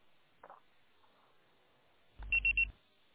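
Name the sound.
voicemail recording beep tone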